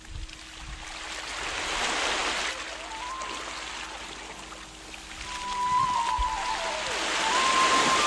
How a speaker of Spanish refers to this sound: El mar.